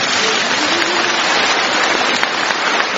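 A crowd applauds in a dense, steady wash of clapping that holds at an even, fairly loud level for about three seconds, with no voices over it.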